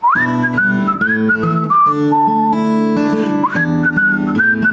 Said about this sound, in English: Whistle.